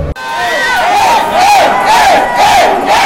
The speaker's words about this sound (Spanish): En el templo de la lucha libre cantan, gritan, bromean, insultan. Y los de abajo supuestamente son los ricos. Y es lo que nos motiva a gritarles, porque para ellos nosotros somos los pobres.